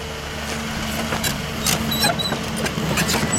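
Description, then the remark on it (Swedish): A steady low engine rumble with a droning hum, joined by brief metallic clinks and squeaks, from an excavator working on a prison construction site in Sweden; no one speaks. “Jag tänkte bara, jag smyger fram och ska försöka få lite grävskopa här.”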